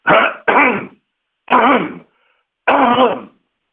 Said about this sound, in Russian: Простите, у меня кашля, секунду.